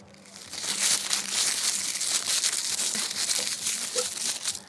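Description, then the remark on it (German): A long rolling paper is crinkled continuously for several seconds, giving a dense, bright crackling rustle that stays fairly steady in loudness with small irregular pops throughout, no voices present. “Es handelte sich um ein knisterndes Longpape.”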